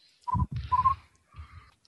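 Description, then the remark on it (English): A human voice makes a poor imitation of cricket chirping, three short buzzy, croaking bursts in quick succession, moderately loud, with the last one softer. “That was a very bad attempt at cricket noises.”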